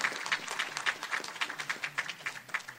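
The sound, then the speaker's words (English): A group of people applauding together to congratulate someone at a Council of the Blind gathering in Columbus, Ohio, on July 11, 2013; a steady stream of overlapping claps with a few sharper individual hits standing out, moderately loud and sustained throughout, with no voices over it. “Here's your clap, my friend.”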